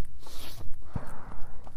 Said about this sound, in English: That was a gunshot. It is hunting season here. So, way off in the distance where the forest is, you may see locals that are basically sitting on their back deck.